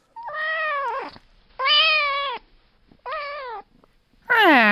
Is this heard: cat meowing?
yes